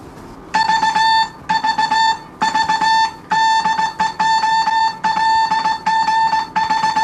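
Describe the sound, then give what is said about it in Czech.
The call sign OLGH of the ship Kladno sent in Morse code by the ship's telegraphist: a loud, steady mid-high beeping tone keyed in quick dots and dashes, forming several short groups separated by brief pauses, with no voices. “Slyšeli jste volací značku lodi Kladno OLGH.”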